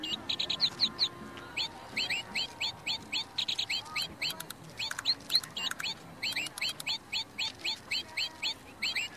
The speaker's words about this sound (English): I also met a cute and quite talented little red bird. Batteries not included.